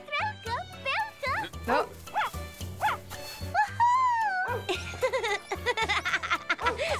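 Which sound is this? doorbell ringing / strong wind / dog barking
dog barking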